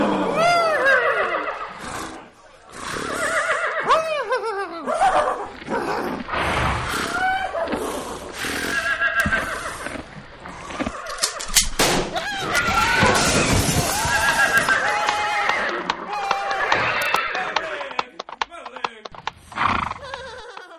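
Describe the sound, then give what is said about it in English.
Grown men's voices loudly imitate horse neighing and whinnying at women, with repeated wavering, sliding calls overlapping one another for about twenty seconds, boisterous, mixed with some vocal noise. “Enjoy that with our grown men making horse noises at women.”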